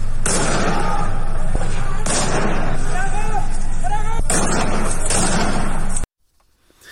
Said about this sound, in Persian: در ویدیویی که وبسایت حقوق بشری هنگا شامگاه دوشنبه از سنندج منتشر کرد، ماموران امنیتی در حال تیراندازی مستقیم به سمت خانه‌های شهروندان در سنندج هستند.